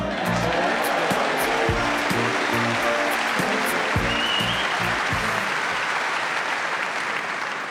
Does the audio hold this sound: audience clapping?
yes